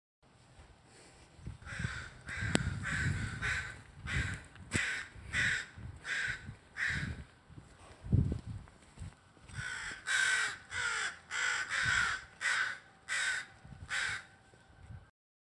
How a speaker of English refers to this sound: So in your clip, you talk about these crows in the morning that you went out for your walk. And is that something that you've noticed, like, since the pandemic started, that, like, these crows are out more?